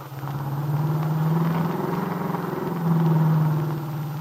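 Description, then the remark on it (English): A car drives steadily along the main highway leading to Chicago, its engine a continuous low drone with a smooth, even hum that swells slightly partway through, fairly loud with no voices. “Now, with Del at the wheel of her car, the nightclub owner and the young entertainer turn onto the main highway which leads to Chicago.”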